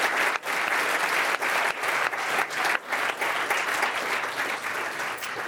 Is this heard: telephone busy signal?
no